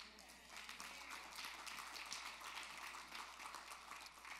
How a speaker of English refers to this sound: That sounded like a clap like on the third green of a fairway, you know, or something like that at a golf course.